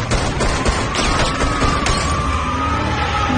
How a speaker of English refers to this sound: Gabriel slams on the brakes, spins back, and fires. The bullets shatter the windshield.